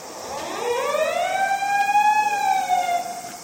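An emergency vehicle siren wails steadily as the vehicle drives in emergency mode on an expressway to an accident scene, its tone rising and then holding at a loud, sustained pitch with layered harmonics. No one speaks over it.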